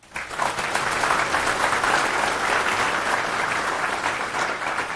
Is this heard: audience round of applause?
yes